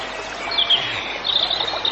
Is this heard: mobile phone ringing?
no